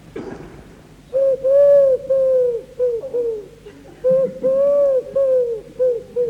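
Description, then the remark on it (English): A museum curator imitates a wood pigeon's cooing with their voice: soft, hollow hooting notes in two rhythmic phrases, repeated, with a brief pause between them. “What other birds? Wood pigeons as well.”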